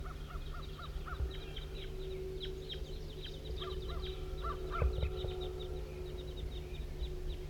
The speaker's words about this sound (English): Here comes some more wild birds.